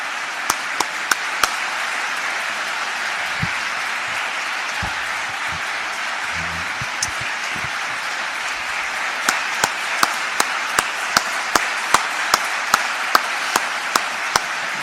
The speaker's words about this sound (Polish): Piękne brawa dla Pana Jezusa, który jest naszym najlepszym ochroniarzem i na Golgocie stoczył bitwę o nas. Mężczyzna ma być wielki, ale już tych braw wystarczy.